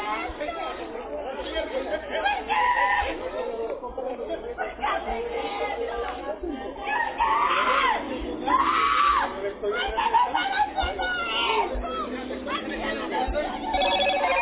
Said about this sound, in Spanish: Fuerte, ¿no? Bastante fuerte el grito ese inicial.